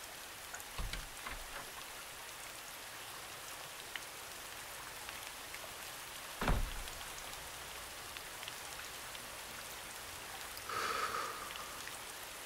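Steady rain patters on surfaces as a dense, even hiss, with occasional heavier drips and a couple of brief low thumps. No one speaks.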